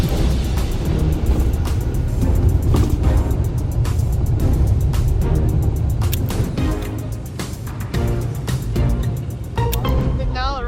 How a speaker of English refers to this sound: 4:30 p.m. here in Gansu province. We are on our way to the launch site. We will be taking this bus. It'll take about a 2-hour ride there.